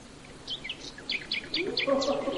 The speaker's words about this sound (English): That's a nightingale. Oh, isn't it lovely?